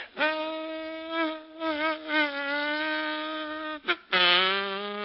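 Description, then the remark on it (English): A voice imitates the whining buzz of a mosquito flying in a grocery store and landing on a small piece of Limburger cheese, held steadily for several seconds with a wavering pitch, briefly cutting out near the end before resuming slightly lower, fairly loud. “Now, that same mosquito flying in the same grocery store, lighting on a small piece of Limburger cheese.”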